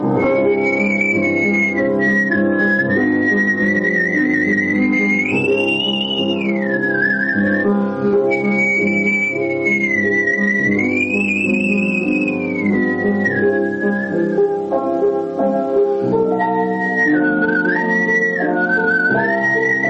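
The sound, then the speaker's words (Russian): A man whistles a flowing melody over steady instrumental accompaniment, the bright whistled line rising and falling in sustained phrases, clear, with no talking. “Вот свист под мой комплимент. Я как бы пел свистя.”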